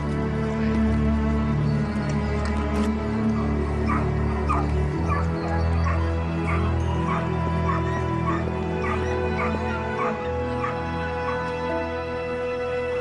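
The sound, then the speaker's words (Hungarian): Several dogs bark, yip and whimper excitedly in repeated bursts at a dog race where nine dogs are about to start, over a steady, loud background din, with the high-pitched cries recurring throughout as if from a crowded pack. “Hamarosan indul a kutyafutás, ahol 9 állat veti össze erejét és gyorsaságát.”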